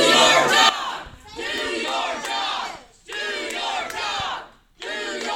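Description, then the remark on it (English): A large crowd chants "Do your job!" in loud, rhythmic bursts, each roaring phrase lasting about a second and a half, separated by brief dips, with cheering voices blending into the sustained shouting. “Wow, look at that crowd.”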